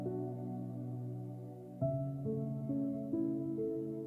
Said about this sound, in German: Du hörst nur auf meine Stimme und im Hintergrund die leise Musik.